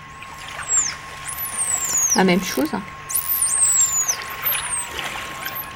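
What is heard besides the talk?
dolphin signature whistle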